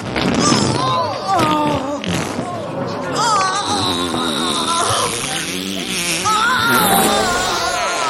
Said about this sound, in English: The Queen lies farting on the floor.